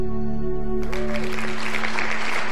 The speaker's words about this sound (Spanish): En eso, todo el salón comenzó a aplaudir. ¿Por qué aplauden?